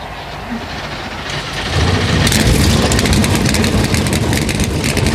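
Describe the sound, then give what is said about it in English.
Loud engines of 36 NASCAR stock cars fire up and roar to life at Darlington Raceway before the Goodyear 400, the rumble building quickly after about two seconds into a dense, sustained crackling growl of many motors idling together. “One by one, 36 engines come to life here.”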